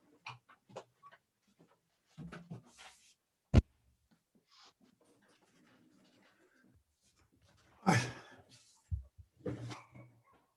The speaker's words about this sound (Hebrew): לא, זה אצלי, הכלבה שלנו נבחת בחוץ. רגע, אני אסגור את הדלת שיהיה שקט.